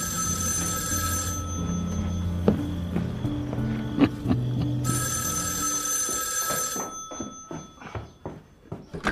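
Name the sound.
telephone bell ringing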